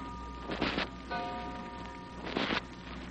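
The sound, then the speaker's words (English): A clock downstairs strikes three at night with slow, evenly spaced chimes, each ringing tone lingering and fading. It sounds muffled, with no talking. “You're still wide awake, staring up at the ceiling when you hear the clock downstairs strike 3.”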